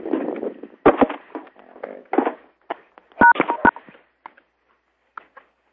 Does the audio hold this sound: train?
no